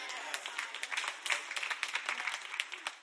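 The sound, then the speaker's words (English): Sparse, uneven clapping from about three people in a church audience, a scattering of sharp claps with gaps between them, fairly soft and with no voices over it. “I think y'all need therapy because only three people clap.”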